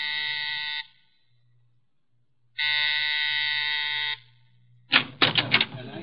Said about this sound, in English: At exactly 7, I rang Mrs. Collins' doorbell.